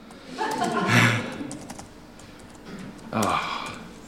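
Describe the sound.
Quick, light key clicks from a laptop keyboard tap along in irregular bursts, with a person's voice murmuring through parts of it.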